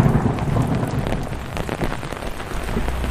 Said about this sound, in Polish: Za chwilę idziemy na próbę, ale jak my wyjdziemy z tego samochodu, tak pada. Ja mam parasolkę. Jak pięknie grzmi.